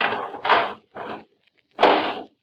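A garbage can lid is set in place with a few clattering and scraping bursts of metal handling, separated by brief pauses.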